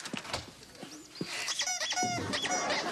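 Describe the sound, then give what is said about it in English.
A door swings open on a squeaky hinge, giving a drawn-out, wavering creak that rises and falls for over a second, fairly loud, with no one speaking. “Open the door.”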